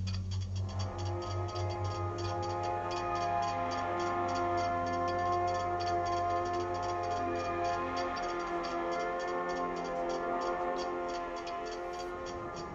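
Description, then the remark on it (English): A mechanical clock ticks in a steady, even rhythm throughout, layered over a sustained, warm tonal drone of music that swells slightly and then thins out toward the end. “From the first tick of a mechanical escapement to the precise oscillations of atomic timepieces, clocks have been humanity's compass in our cosmic exploration.”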